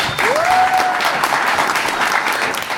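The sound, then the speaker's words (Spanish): An audience claps loudly and steadily for the whole stretch, with a single whistle early on that sweeps upward and holds a steady pitch for about a second. “Un fuerte aplauso.”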